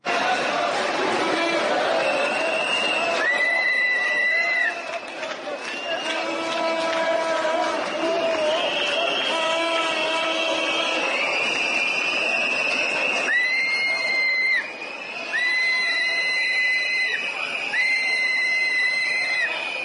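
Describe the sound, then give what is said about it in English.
A huge crowd of about 100,000 Greeks marching on Parliament to protest against EU-IMF austerity measures roars and shouts nonstop while shrill whistles blow in long, repeated blasts and pots and pans clatter underneath, the whole din loud and dense throughout. “100,000 Greeks marched on Parliament to protest against the EU IMF austerity measures and demand real democracy now. Here's what that sounds like.”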